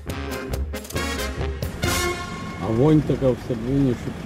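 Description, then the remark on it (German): A line of cars, vans and buses idles and rumbles in slow stop-and-go traffic toward a border barrier, with short honking horns and people's voices rising over the engine noise toward the end. “Pkw, Transporter, Busse. In quälend langsamem Stop and Go bewegt sich die Autoschlange in Richtung Schlagbaum.”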